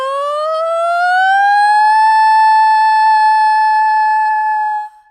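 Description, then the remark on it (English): A single voice does a siren exercise, sliding smoothly upward in pitch from its lowest low to its highest note, then holds a steady sustained note for several seconds before cutting off; loud and alone. “From here, we're going to go into the siren. So from the deepest depths, the lowest low, to the highest heights.”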